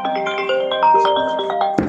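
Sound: mobile phone ringing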